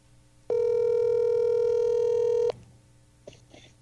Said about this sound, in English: Let's see if my … answers his phone.